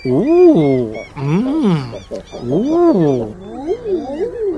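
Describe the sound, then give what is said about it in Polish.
A common eider calls with loud, drawn-out cooing notes that swell and fall, about four in a row, the last ones overlapping as a second bird seems to join in. Recorded by Swedish ornithologist Lars Edenius in spring 2020 on a small island on the Swedish side of the Gulf of Bothnia. “Tego edredona nagrał szwedzki ornitolog Lars Edenius.”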